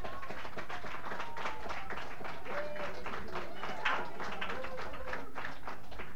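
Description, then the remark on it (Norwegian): A crowd applauds steadily for several seconds, applause from Rødfront, a dense, even wash of many hands clapping at once, with murmuring voices faintly mixed underneath. “Så spørste da om veggavisen og denne applausen fra Rødfront her kan gi seg utslag i det stemmegivning.”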